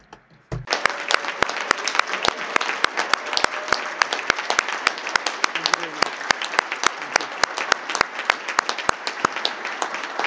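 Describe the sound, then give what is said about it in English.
A crowd at the close of a forum session breaks into sustained applause for the Secretariat, many hands clapping in a dense, steady patter with sharp individual claps standing out, continuing loudly for several seconds. “Please, a round of applause, the Secretariat.”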